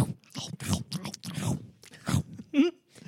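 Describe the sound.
A person vocally imitates a dog crunching Cheetos, making a quick, irregular run of crisp, noisy crunch bursts, then a brief squeaky vocal note near the end.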